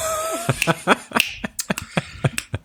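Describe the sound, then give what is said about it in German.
About a dozen sharp hand claps in an uneven, loose rhythm, moderately loud, with a faint steady tone in the background at the start. No one speaks. “Wir müssen gleich nochmal klatschen.”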